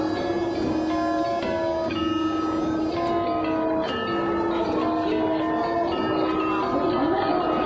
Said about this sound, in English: The stone chimes are played by striking the suspended stone near its lower end with a pan horn mallet.